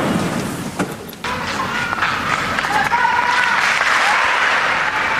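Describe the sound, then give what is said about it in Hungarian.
A large crowd applauds the Pope continuously after his blessing, a dense, steady roar of clapping with a few faint cheers and voices mixed in, filling the whole stretch without pause. “Szokásos módon tapssal üdvözlik a Szentatyát, és köszönik meg az ő áldását, az ő szavait, és éppen ezekben a pillanatokban az a bizonyos püspök köszönti a Szentatyát.”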